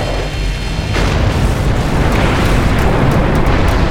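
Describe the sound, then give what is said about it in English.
A missile fired at jets moving to take off at Dulles airport explodes and ignites aviation fuel in a deep, sustained roar that swells sharply after the first second and keeps rumbling loudly to the end, with crackling texture and no voices. “He's gonna fire missiles at the jets moving to take off. If he hits them in the right spot, that aviation fuel is gonna light them up.”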